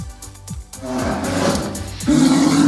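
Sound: polar bear roar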